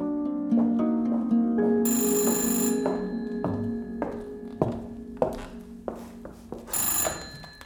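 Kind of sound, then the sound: household object, telephone ringing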